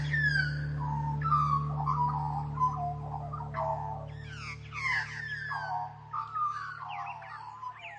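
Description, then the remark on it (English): An Australian magpie carols with rich, fluting warbles and gurgling whistles that tumble up and down in quick phrases, continuous over a steady low background hum. “Once you pay attention to a magpie's voice, you can't unhear it.”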